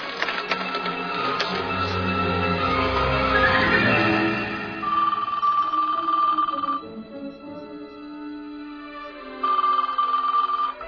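A telephone rings in steady bursts, two rings a few seconds apart with no one picking up, following a stretch of busy mechanical clatter. No voices are heard.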